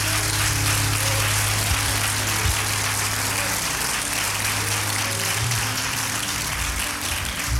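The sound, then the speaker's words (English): A crowd applauds steadily and loudly for several seconds, dense overlapping hand claps forming a continuous roar with a low hum of music or room noise underneath. “Come on, clap your hands.”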